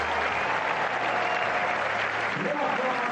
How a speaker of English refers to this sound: And Jim begins with applause for Rafa in New York.